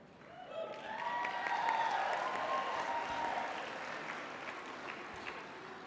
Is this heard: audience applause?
yes